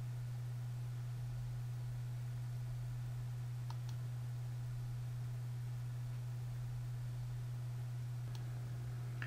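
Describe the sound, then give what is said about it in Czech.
A couple of faint, sharp mouse clicks, one near the middle and one toward the end, as a link to the PowerShell Cookbook is clicked on a computer, over a steady low electrical hum and soft hiss, with no talking. “Klikl správně, nebo už nevím ani klikat.”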